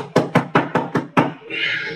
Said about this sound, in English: About that time, they heard a knock way in there.